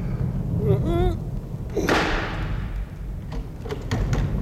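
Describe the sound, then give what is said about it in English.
A heavy, tremendous-sized brass door knocker carved with a lion's head bangs once against a door, ringing out with a long echoing decay, followed by a few fainter taps amid low background murmur. “Oh, a tremendous-sized brass knocker on this door.”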